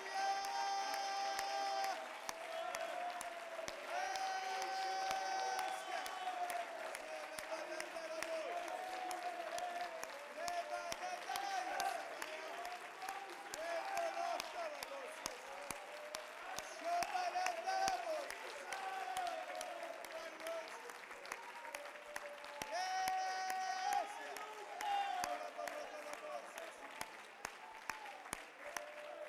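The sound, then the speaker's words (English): An audience claps and cheers in praise of God without pause, dense steady applause mixed with raised voices and sustained shouts rising and falling in pitch, loud from start to finish. “Would you clap your hands and lift your voice and give God praise?”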